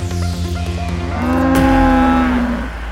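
A cow moos once, loud, a drawn-out bellow that rises in pitch and holds steady for a couple of seconds before trailing off, with no one talking.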